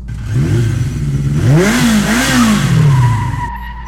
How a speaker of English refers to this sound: Fire up the engines, Olivia. Let's find some less crowded space.